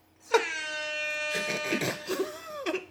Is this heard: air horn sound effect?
yes